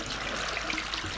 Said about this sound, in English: Listen to it! Close your eyes and listen to it. What would you think it was? Water.